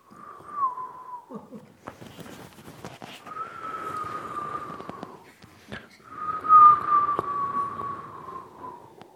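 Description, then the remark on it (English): Wind whistles through a narrow, glassless ventilation slit in an open window, the kind people shot arrows through, in three long, wavering moans, the steadiest and loudest coming last, with an airy, breathy rush underneath and brief gusty pauses in between. “But anyway, the wind would always whistle.”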